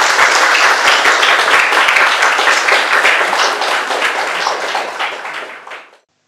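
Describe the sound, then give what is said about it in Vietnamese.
A crowd breaks into sustained applause, a dense, loud wash of many hands clapping that holds steady for about five seconds before fading out quickly at the end. “Đại chúng cho một tràng vỗ tay nha.”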